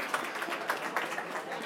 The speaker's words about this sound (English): Also, Andro, please, another applause for him.